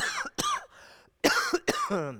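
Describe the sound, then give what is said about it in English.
A fairly loud bout of harsh coughing: two quick coughs, a short pause, then two more raspy coughs trailing off, with no talking. “I'm going to have to cough. I'm sorry.”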